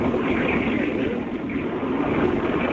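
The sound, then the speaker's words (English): A cruise ship's hull grinding against ice in a foggy ice field among icebergs, recorded by a passenger: a steady, loud, growling roar with a deep rumbling low end that keeps going without a break for the whole stretch, with no voices. “I mean, it was like a growling, scraping, booming sound when they hit.”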